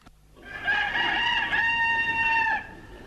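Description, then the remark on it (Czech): A rooster crows once, a long, loud, harmonic cock-a-doodle-doo that swells, holds steady for about two seconds and then cuts off sharply, with no voices around it. “A beše batlija petl.”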